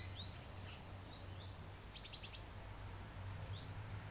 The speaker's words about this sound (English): Do you hear the bird, maybe, in the background?